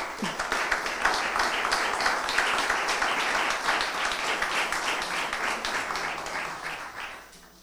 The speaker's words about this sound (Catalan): Un aplaudiment.